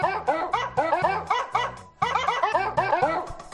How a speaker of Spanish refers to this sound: Es la canción de Angry Birds, el juego de los pajaritos. Ay, qué bonita. Pero interpretada por perros.